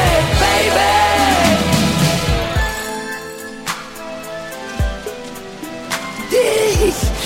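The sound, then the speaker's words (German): Steady rain hisses throughout, with scattered droplet taps and splashes standing out now and then. A voice-like tone rises briefly at the start and again near the end. “Der Regen macht mich sauer.”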